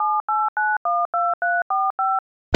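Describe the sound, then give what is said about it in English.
Telephone keypad tones beep eight times in a quick, even rhythm, each short note a steady electronic tone, followed by a brief click at the end. No one speaks. “get in the right mood and pass me the phone.”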